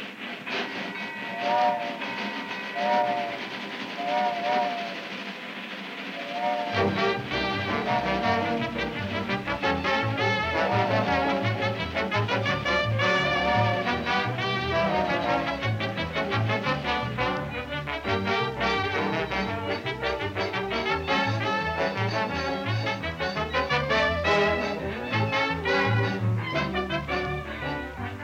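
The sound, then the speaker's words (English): A passenger train, the Club Car Special, runs with repeated whistle-like tones at first, then a loud, steady rhythmic chugging and clatter that carries on without pause, with no one talking. “Again, we board the Club Car Special and sink into a comfortable chair and open our newspaper”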